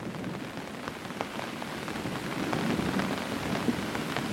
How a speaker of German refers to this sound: Die Tropfen prasseln gleichmäßig auf den gespannten Stoff über dir, und jeder Laut klingt wie ein sanftes Klopfen, das dich tiefer in diese besondere Nacht hineinführt.